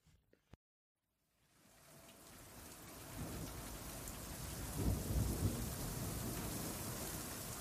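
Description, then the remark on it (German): Steady, dense rain fades in after a brief near-silent moment and settles into a continuous hiss, with a low thunder rumble swelling partway through. No voices. “Eilig, aber mit der nötigen Vor- und Rücksicht, buxierte Anka ihre älteste Milchkuh Martha durch den mittlerweile vom Regen aufgeweichten, schlammigen Boden in den Stall.”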